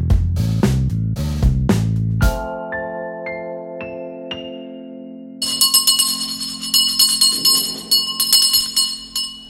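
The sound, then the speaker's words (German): A bell, rung to rouse everyone when the meal is ready, is struck repeatedly and rings out loudly, its tones lingering, then shifts into a bright, sustained jangling peal for the last few seconds, with no one talking. “Ja, und zwar ist die Glocke dafür da, alle aufzurütteln, wenn das Essen dann auch wirklich fertig ist.”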